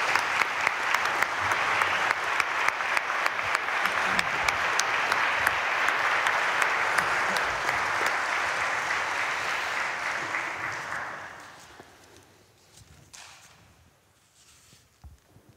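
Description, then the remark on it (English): An audience at a church service of baptism and confirmation breaks into a sustained round of applause for everyone who supported them, a dense wash of clapping holding steady for about eleven seconds before fading quickly into quiet rustling. “Can we give a round of applause to everyone who supported us?”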